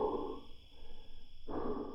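sound effect, breathing

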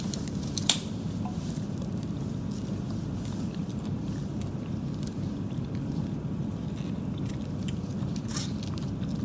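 food or drink, biting and chewing food

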